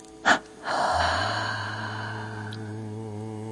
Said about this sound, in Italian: E quando il respiro vuole rientrare, lascialo entrare spontaneamente, senza controllarne il ritmo, semplicemente osservandolo, come se fosse il vento che entra ed esce dal tuo corpo con ogni respiro.